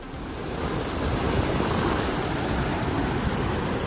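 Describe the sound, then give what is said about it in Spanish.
A powerful torrent of the Henares River roars steadily, water released from the Beleña reservoir flowing at 45 cubic metres per second, heard from the Arab Bridge; a dense, unbroken wash of noise with no voices or pauses. “Es el torrente de agua del desembalse de Beleña, que fluye ahora a 45 metros cúbicos por segundo.”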